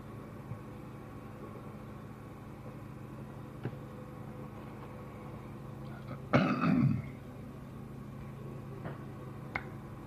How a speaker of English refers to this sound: Hear the mortar come out of its pipe with a whoosh. And then he hits about a half a block from us.